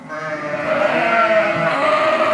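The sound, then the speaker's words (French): Ewes bleat loudly, several overlapping calls merging into a sustained, wavering chorus that holds steady for a couple of seconds with no talking. “Les brebis ne nous regardent même plus.”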